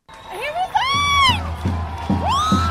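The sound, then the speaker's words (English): Hundreds of protesters in a square in Beirut, Lebanon, scream and whoop in rising, sustained cries after the prime minister's resignation, with a steady rhythmic chant of "revolution" and pulsing beats beneath, loud and dense throughout. “There are hundreds of protesters in this square. The prime minister of Lebanon has just resigned, and they're all screaming and chanting, revolution, revolution, revolution.”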